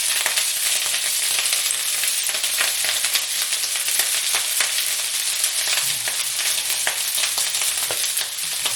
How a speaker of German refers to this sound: Jetzt kommt grob und da macht er eine Kelle Öl rein. So, ein bisschen anbraten. Jetzt haue ich das Gemüse dazu. So, da wird das hier eine ganz bunte Mische.